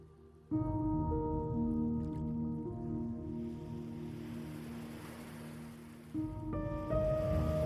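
Waves wash onto a shore in a soft, hissing swell that rises and recedes through the middle, under a steady, sustained tonal drone that shifts pitch near the end. No one speaks.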